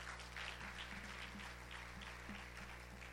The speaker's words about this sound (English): And we always enjoy it when they come home. And let's give them applause.